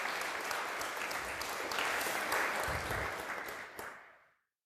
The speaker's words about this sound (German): Wo ihr gerade so schön geklatscht habt. Ich glaube, es wäre mal Zeit, hier unserem Technikengel einen Applaus zu geben, ohne den der ganze Quatsch hier gar nicht laufen würde.